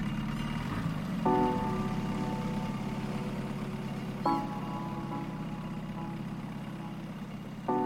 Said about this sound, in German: Und tatsächlich, der Motor springt an.